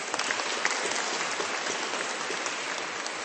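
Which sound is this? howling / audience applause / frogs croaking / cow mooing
audience applause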